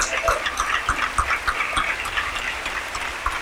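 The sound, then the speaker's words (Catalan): A crowd applauds steadily and enthusiastically after a festival proclamation speech (pregó), a dense, crackling wash of many hands clapping at once, sustained and fairly loud with no pause throughout. “I continuen els aplaudiments. Amb força, amb ganes.”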